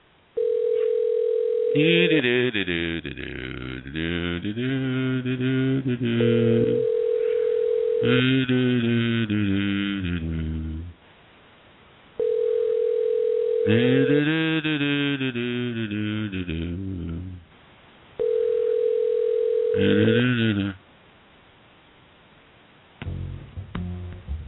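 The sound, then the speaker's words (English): The ringback tone of an outgoing phone call sounds four times. Each steady burst lasts about two seconds and repeats roughly every six seconds, with muffled voice-like sounds filling the gaps between rings. The call goes unanswered to voicemail. “And I don't want to do this alone, so he better answer his phone when I call, because if he doesn't answer his phone, we're in deep doo-doo.”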